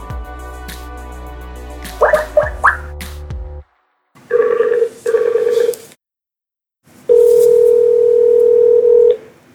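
A quick run of telephone dialing beeps, then a double ring burst, a pause, and a longer steady ringing tone. The tones are loud and clear, with no voices.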